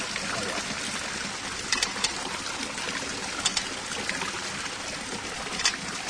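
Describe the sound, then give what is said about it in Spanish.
Holy water sprinkled during the blessing of a place, in light, scattered splashes over a steady hiss of dribbling water, with a few sharper spatters standing out, moderately loud, with no one speaking. “Cuidado, que va un poquito de agua.”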